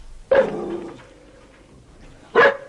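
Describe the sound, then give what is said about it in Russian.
A dog barks twice, loud: one sharp bark with a short trailing tail, then a second after a pause of about two seconds, with quiet in between. “Очень хорошая собака. Такая с виду умная, симпатичная.”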